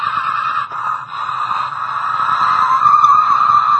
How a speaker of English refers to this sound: And every one of y'all, I'm sure you went through this morning trying to get to church. You go out to the car. You start the car.